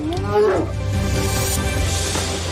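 A bear lets out a loud, rising and falling roar near the start, followed by a low, steady rumbling growl that continues over a dense, noisy background.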